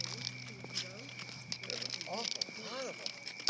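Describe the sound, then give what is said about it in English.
Crickets chirp outdoors in a steady, high-pitched shimmering trill that runs throughout, while people talk over it in low voices. “Don't these sound like sleigh bells, the crickets?”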